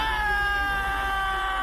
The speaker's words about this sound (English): Ah! Okay. I just screamed my lungs out, okay? This is spooky.